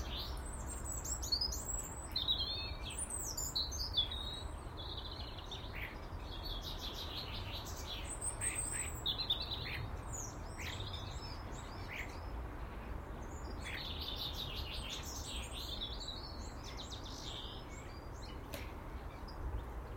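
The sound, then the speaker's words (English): Many birds chirp and twitter in overlapping high, quick calls as they flit about on a sunny morning, busy and continuous over a steady low rumble of background noise, with no one speaking. “So humble in the morning like this, standing and soaking up sunshine. and watching the birds flit about.”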